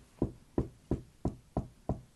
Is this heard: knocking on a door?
yes